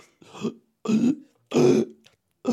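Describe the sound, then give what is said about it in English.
Four short, rough burps from a person swallowing air and pushing it out, each a throaty, gurgling burst separated by brief pauses, forced out one after another. “There's a burp.”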